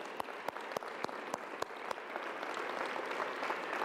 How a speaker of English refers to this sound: I know I'm not the only one we can clap all day and salute him, but okay, let's have a seat. We love you, we honor you, we thank God for your life